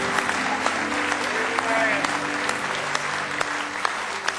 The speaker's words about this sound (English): Say praise the Lord. Oh, let's give Him a real good hand clap of praise tonight if you love Him.